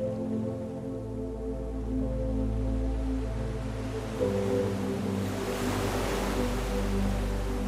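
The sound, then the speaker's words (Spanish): Ocean waves wash steadily, with one wave swelling and breaking about halfway through, its hiss spreading wide. A low, steady hum runs underneath, and no one speaks. “te enseña a escuchar y a sentir el ritmo del océano.”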